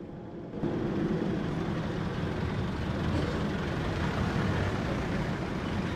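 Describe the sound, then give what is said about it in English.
A taxi's engine rumbles steadily after a brief silent start as it pulls up in a car park outside a restaurant at dusk, a dense, low-heavy drone that holds at an even level for several seconds with no voices. “It's dusk when the taxi pulls up in a car park outside a restaurant.”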